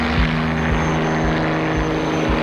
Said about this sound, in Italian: Ragazzi, in cielo c'è lui. È lui o non è lui? È lui o non è lui? Certo che è lui. Oddio, mi senti i brividi. L'avvocato Giovanni Agnelli. Gianni! Ciao, Cipollino! Fa sciare in elicottero.